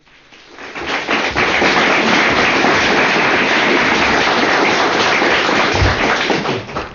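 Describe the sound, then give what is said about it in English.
An audience applauds at a lecture by L. Ron Hubbard given on 3 September 1963: a dense, crackling wash of many hands clapping that swells up within a second, holds steady and loud for several seconds, then begins to ease off. No one speaks. “I wouldn't have applauded like that.”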